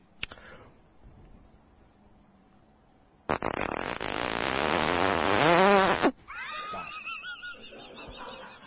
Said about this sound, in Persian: زیپ کت بود.